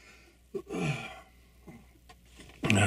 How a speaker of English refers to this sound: Excuse me, I had a sneeze come on there.